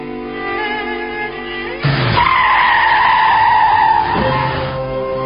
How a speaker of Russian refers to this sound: За 2 дома от них остановилась машина.